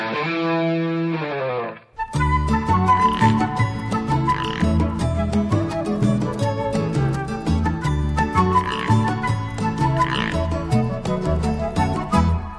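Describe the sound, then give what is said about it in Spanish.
A loud, dense chorus of toads croaking in rapid, overlapping rhythmic pulses that carry on steadily, preceded by a brief drawn-out tonal call at the start. No one speaks. “Es la historia de unos sapos y unos peces que vivían en las aguas cristalinas y los peces no querían compartirla.”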